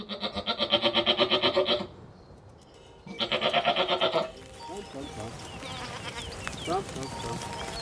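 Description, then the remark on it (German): Two loud, wavering bleats from a herd of 150 Toggenburg dairy goats heading out onto the heath in Brandenburg, Germany, each nearly two seconds long with a quavering pulse, separated by a short pause, then a busy outdoor backdrop of faint chirps and rustling from the herd. “Und eine Herde von 150 Toggenburger Milchziegen ist unterwegs auf die Heide in Brandenburg.”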